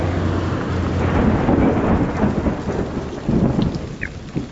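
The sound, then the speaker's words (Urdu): Rumbling thunder rolls over steady, hissing rain as lightning cracks and flashes, with a louder crack and boom in the middle and another surge near the end; no voices, just the storm. “مدنی منوں اور مدنی منیوں، آپ نے بھی دیکھا کہ یہ بجلی بھی کڑکی ہے اور بادل گرج رہے ہیں اور اسی طرح جو ہے یہ بجلی چمک رہی ہے، یہ کیوں ہوتا ہے آپ کو پتہ ہے؟”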